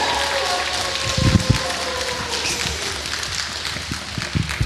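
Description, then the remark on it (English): A crowd claps steadily in a dense, continuous wash of applause, with a few sharper claps and faint whoops rising through it, fairly loud throughout, as an audience welcomes an effects artist to the stage. “Can I get a round of applause?”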